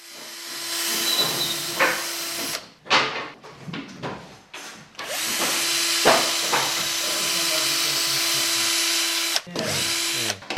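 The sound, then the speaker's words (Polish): The lowest notes of an organ's pedal section, played on wooden pipes: two long sustained tones thick with rushing air noise, separated by a stretch of knocks and clatter, with no talking. “Mam nadzieję, że będę w stanie zadąć te piszczałki. No, ten dźwięk to wymaga dużo powietrza.”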